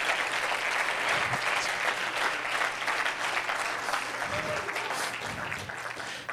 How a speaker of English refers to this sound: Hallelujah. Let's clap those hands and give God praise.